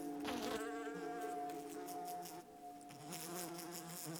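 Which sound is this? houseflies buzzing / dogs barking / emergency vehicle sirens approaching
houseflies buzzing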